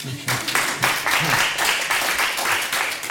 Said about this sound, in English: Thank you for those who applauded. As for those who didn't, I don't know where you want to live next.